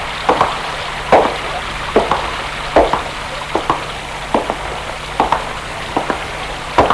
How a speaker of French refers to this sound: Il est surpris par le calme. On n'entendait presque pas la pluie du dehors.